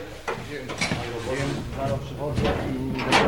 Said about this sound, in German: öffnet die Tür der Räucherkammer.